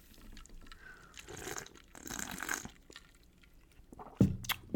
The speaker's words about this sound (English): In fact, I'm going to pour just a little bit more to replace what I just drank out.